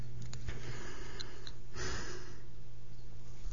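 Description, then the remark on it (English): A single drawn-out, breathy yawn, rising and fading over a couple of seconds against a quiet background hum, with no talking. “Okay, there will be a show that I'll do sometime where I won't be yawning during it.”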